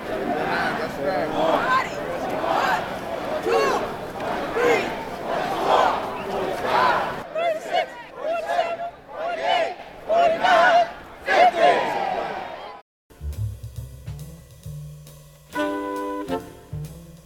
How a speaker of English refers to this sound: And you've been listening to a New York City march protesting the police killing of Sean Bell.